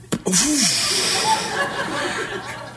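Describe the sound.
A voice imitates a latex membrane bursting like a balloon popping: a sharp pop from the mouth, then a long breathy hiss that trails off, fairly loud with no other talk.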